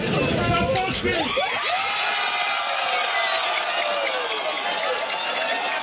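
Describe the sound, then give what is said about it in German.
A large crowd cheers and shouts loudly and continuously as a very close election result (50.3 to 49.7) comes in, with rising whoops and excited voices blending into a dense, sustained roar of celebration. “Und trotzdem, man hat es eben im Hintergrund schon gehört, die Leute haben gejubelt.”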